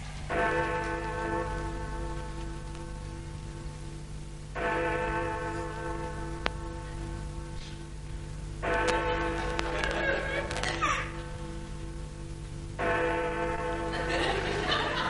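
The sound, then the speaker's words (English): A clock chimes loudly in four long, ringing strokes spaced a few seconds apart, each bright tone lingering before the next, over a steady low hum with some faint shuffling. “God, black ruddy clock.”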